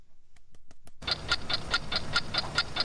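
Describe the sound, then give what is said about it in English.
A clock ticks in a steady, even rhythm, about four crisp ticks per second, faint at first and then louder over a soft background hiss. “it's not the start of the TV show 60 Minutes. Just a gentle reminder to turn your clocks back tonight”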